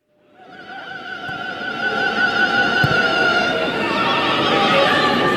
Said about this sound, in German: Ja, ich habe angekündigt, ich würde diesen Soundbite noch häufiger verwenden. Jetzt ist es soweit. Der SV Meppen war der Gegner und der Falsett-Fan, er war auch wieder vor Ort.